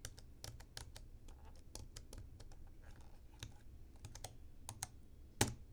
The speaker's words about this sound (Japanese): はい。タイピングはこんな感じでしょうか。